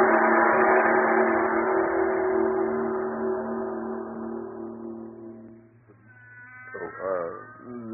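A cat lets out a long, loud, drawn-out yowl that holds steady for several seconds, then breaks into a wavering, rising-and-falling cry near the end, with no voices alongside it.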